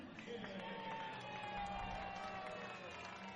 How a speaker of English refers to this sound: Casey the Bat Dog does the job flawlessly. Gets a nice round of applause from the Friday night crowd here in Kannapolis.